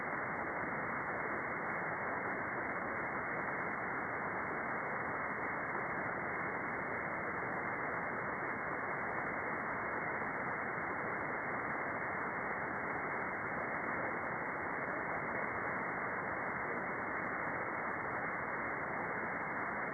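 Steady, unbroken radio static hisses for the whole stretch, a dense band-limited rush of noise on an open channel with no voices breaking through, the static drowning out incoming signals and rising too high for the radio to stay on safely.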